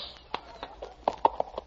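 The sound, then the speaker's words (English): The Sheriff's horse being ridden, hooves clip-clopping in a quick, uneven rhythm, about eight sharp knocks in under two seconds over a faint background hiss, with no voices. “Ah, say, that's a beautiful ride, Sheriff.”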